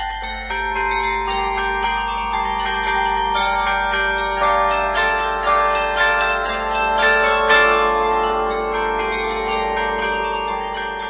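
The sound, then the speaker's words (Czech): A carillon rings out a melody, its bell tones overlapping and sustaining as notes follow one another steadily, full and resonant with no voices present. “mám radost z toho, že zvonohra skutečně lidem působí potěšení a že muzikanti na ní rádi hrají.”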